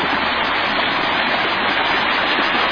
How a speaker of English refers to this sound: We're seeing another waterfall. This is near the recording studio.